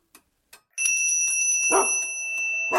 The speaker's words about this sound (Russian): звонит в колокольчик, зовет слуг.